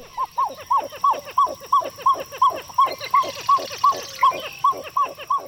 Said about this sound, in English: For an eerie scene set deep in the African jungle, Hollywood knows it's hard to beat the resounding call of a pied-billed grebe. Small matter that the grebes are found only on the other side of the world.